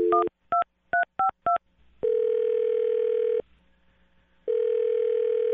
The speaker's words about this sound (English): Well, I'm about to dial her phone number right now and see if we can find out why she's not getting back to you, okay?